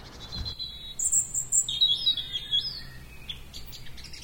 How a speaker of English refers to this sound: give a bit of sunshine and the skylarks are singing, giving it all, which is wonderful.